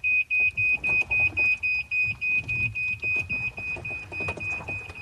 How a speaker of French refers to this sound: quand on monte en voiture, ça fait pas vroom vroom, mais tutut.